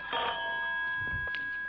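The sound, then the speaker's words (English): A telephone bell at a police headquarters rings in one continuous, steady burst, its bright metallic tone sustained throughout at moderate loudness, with no voices over it. “Here's that pesky phone again.”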